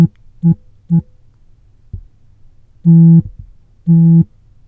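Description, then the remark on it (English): A phone's 'terse' alert pattern is previewed with the phone held to the microphone: two short buzzy beeps, a soft click, then two longer, louder buzzy tones in a steady rhythm, with no talking. “So I'm going to hold the phone again to the mic. And here we go, here's terse.”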